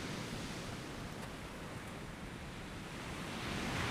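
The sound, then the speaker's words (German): A steady, soft wash of surf, small waves rolling gently onto a sandy beach, with a slight swell toward the end. The sound is continuous and hissy, and nobody speaks. “Eine kleine Welle umspült deine Füße.”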